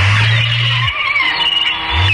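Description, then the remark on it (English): A loud, harsh phone alarm blares: a deep buzzing drone that cuts out and returns, layered under shrill, squealing high tones that waver continuously. “It sounds like seagulls are getting shot with AK-47s”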